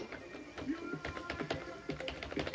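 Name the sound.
keyboard keys being pressed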